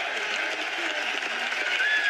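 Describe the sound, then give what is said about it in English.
A crowd at the 2015 NFL Draft applauds and cheers as the Chicago Bears select wide receiver Kevin White of West Virginia with the seventh pick, a dense steady wash of clapping and voices that stays loud and even throughout, with a faint rising whistle near the end. “Listen to this crowd.”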